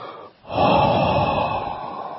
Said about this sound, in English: So what we do, we exhale from the mouth, inhale from the nose, forcefully.